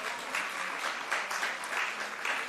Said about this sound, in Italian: Il discernimento, dovete battere le mani a lui, non a me, che il discernimento sa valutare i frutti.